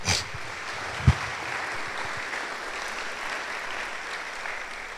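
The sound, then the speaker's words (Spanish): A crowd applauds God steadily, a dense wash of many hands clapping at once, sustained for several seconds with a brief louder thump near the start. “Damos un aplauso a Dios, por favor.”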